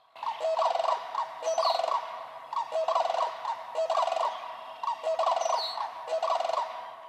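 A male and female bird pair trumpet in a loud duet on a lake, the male's lower bugling call answered and overlapped by the female's higher one, repeating in about five rhythmic bursts with short gaps between.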